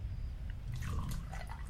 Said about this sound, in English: So I poured myself a drink to ease my nerves.